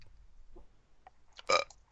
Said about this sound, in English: Damn it, I was trying to get like a louder belch. I know, man. What was it? That is one of the weakest belches ever. That was really pathetic. It was the most pathetic belch. That's a perfect word, man. Pathetic. That was a pathetic belch.